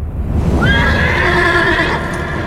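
A horse lets out a loud, drawn-out whinny lasting over a second, its pitch wavering and trailing off, over a steady low rumble that could be hoofbeats.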